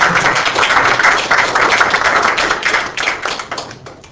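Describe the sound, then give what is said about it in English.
A crowd applauds, a dense, steady patter of many hands clapping at once, loud throughout and thinning slightly in the final second. No one speaks. “Okay, well, let's clap for you, and then we have some.”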